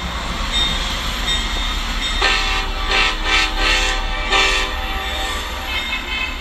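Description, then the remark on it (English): A passing train engine rumbles steadily at a railroad crossing while its horn sounds in several loud, sustained blasts, a long one followed by shorter bursts, with no one speaking. “My son is a rail fan, so I take him to railroad crossings all over the country where he can film rare or unusual engines, sometimes with special horns, and post them to his YouTube channel”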